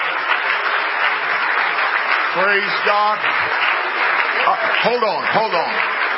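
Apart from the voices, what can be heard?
audience clapping hands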